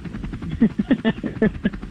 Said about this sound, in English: Instead, I just found helicopter sound effects. Let's go. Okay, whenever you're ready. Is the chopper on? Or? Yes, the chopper's on. Oh, you can't hear it?